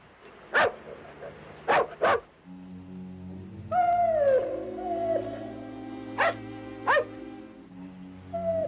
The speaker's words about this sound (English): You hear that? Hear what? I don't hear nothing. Dog barking. Sounds like it's coming from the van. By gosh, it does.